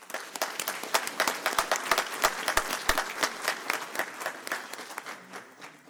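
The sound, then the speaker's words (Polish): An audience at an award ceremony applauds the absent second-place winner in the media category, many hands clapping in a dense, continuous wash with a few sharper individual claps standing out, moderately loud and sustained for several seconds with no talking. “Niestety nie mógł być, ale i tak poprosimy o brawa.”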